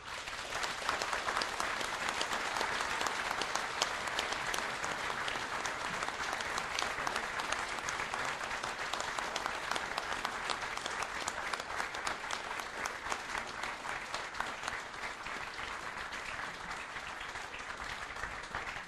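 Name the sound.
audience applause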